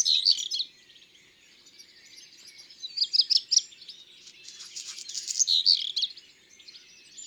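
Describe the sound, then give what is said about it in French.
A redstart on top of a roof in the morning sings its short, repetitive song: high, thin whistled phrases followed by a scratchy, crackling rattle, repeated three times with brief pauses between, fairly faint and alone. “Dès qu'il se réveille, le rouge-queue fait la tournée des toits, des cheminées, des antennes de télé, et il chante sa rengaine.”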